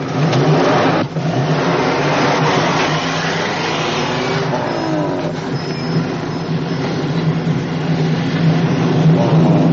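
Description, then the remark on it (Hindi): A heavy truck engine rumbles loudly, revving with a rising pitch as the vehicle pulls away, its steady roar filling the whole stretch without any voices. “Truck driver जी, जरा गाड़ी रोकना।”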